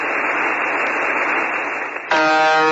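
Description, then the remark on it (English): Hissing radio static fills the first two seconds, then a loud, harsh, repetitive buzzer tone from a radio station known as the buzzer cuts in abruptly and drones steadily to the end, with no voices. “Sometimes the buzzer stops and a male, robotic-like voice lists names and numbers in Russian.”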